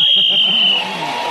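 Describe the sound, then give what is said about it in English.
A single steady, high-pitched game show whistle blast, blown while panellist Tony Hawk is speaking, sounds for just under a second, loud and unbroken, with voices talking underneath before it cuts off, leaving murmuring behind. “So, Tony Hawk speaking as the whistle went, gained another extra point, and he's still just in the lead ahead of Kit Hesketh-Harvey, and then Sue Perkins and Wendy Richard in that order as we go into the final round.”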